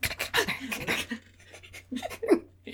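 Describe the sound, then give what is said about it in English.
A person imitates a quick, breathy panting pattern, a rapid burst of huffs followed by a pause and a few more uneven panting breaths, fairly loud. “It was, but I realized in like the middle of it, I do this weird like breathing pattern.”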